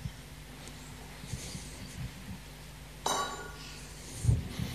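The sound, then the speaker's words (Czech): A glass bottle of wine is handled, giving a bright, ringing clink partway through, followed by a dull knock as it is set down, amid soft rustling and no talking. “To je láhev s hroznovou šťávou, s vínem.”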